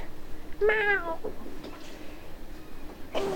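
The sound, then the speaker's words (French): A person mimics a cat with one drawn-out meow, followed by a few faint, brief vocal sounds. “J'ai un chat dans la gorge.”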